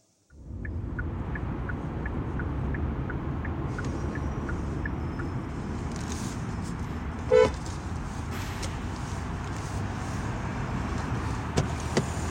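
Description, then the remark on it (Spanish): A car engine rumbles steadily in very cold weather, with faint rhythmic ticking early on, then a single short honk of the horn cuts through partway before the engine noise carries on. “Corre, súbete al coche que hace mucho frío.”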